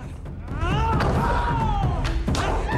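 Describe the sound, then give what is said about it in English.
A man is picked up, spun round and slammed down hard onto a marble floor on his back during a fight, with a couple of sharp impacts cutting through a dense, noisy background and a drawn-out vocal groan or yell. “The Chinese guy knees him in the ribs, then … picks him up, spins him round, and slams him down onto the marble floor on his back.”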